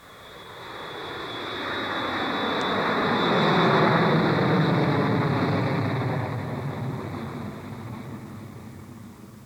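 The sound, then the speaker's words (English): A jet aircraft roars overhead, its broad rushing noise swelling to a peak midway and then slowly fading as it passes, with a steady high whine running through it. “Did you circle the jet?”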